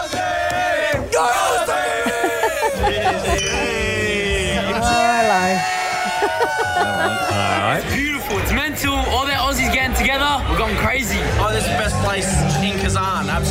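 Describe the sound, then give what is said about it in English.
A loud, excited crowd of young Australian fans cheers and shouts together, with overlapping voices chattering and whooping in a dense, continuous roar throughout. “Having a great time. A lot of cheering.”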